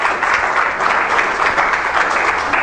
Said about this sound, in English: Give the Lord a hand of applause in his face.